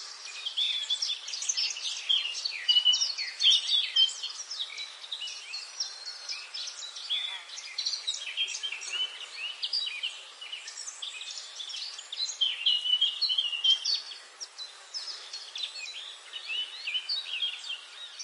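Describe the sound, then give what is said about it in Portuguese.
Dense birdsong on a sunny morning: many high chirps and trills overlapping continuously, with a steady, moderately loud chorus of several birds throughout and no voices. “Certa manhã, o sol brilhava e os pássaros cantavam.”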